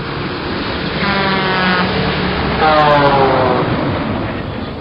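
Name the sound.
truck driving past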